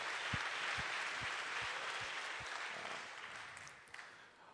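An audience applauds steadily, a dense wash of many hands clapping at an even level for several seconds, then gradually thinning and tapering off toward the end.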